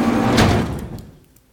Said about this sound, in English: The pressure door just opened. I can hear it.